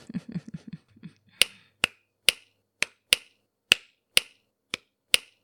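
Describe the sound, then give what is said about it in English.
About ten crisp finger snaps ring out in a steady, unhurried rhythm, each one sharp and bright. A few short, low murmured vocal sounds come just before the snapping starts. “And that's when the snapping resumed.”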